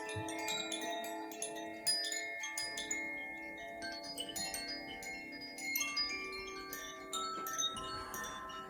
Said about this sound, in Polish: Jak wygląda taki dzwonek? Bambusowa tuba z forniru bambusowego. Poprzeczka przez górną, tam jakby na górze. Przez połowę poprzeczki idzie sznurek, na którym się wiesza, na którym w dole wisi plastikowe serce uderzające o pręty